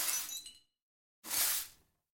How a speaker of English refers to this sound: And then, of course, it's, as I mentioned, that's the reverb from a trash can applied to just another glass impact.